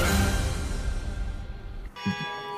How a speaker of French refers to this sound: Ah ben voilà, des cloches.